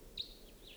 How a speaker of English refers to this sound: I think a wild bird is around somewhere. Stop. They're birding. There was a wild bird here.